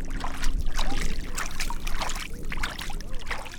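Someone wades through knee-deep lake water, with close, continuous sloshing and splashing in an irregular rhythm as legs push through the water. No voices are heard.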